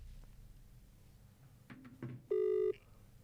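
A phone call's ringing tone sounds once as a short, steady electronic beep, buzzy and mid-pitched, as someone rings a man who has not answered, following a few soft shuffling knocks over a quiet background hum.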